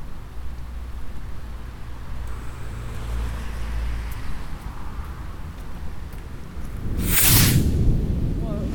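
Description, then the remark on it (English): A bottle rocket firework launches in daytime with one brief, bright hissing whoosh near the end, fairly loud, over a steady low outdoor rumble like wind or traffic. “Do you want to do another package of those bottle rockets?”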